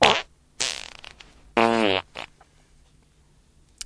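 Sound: fart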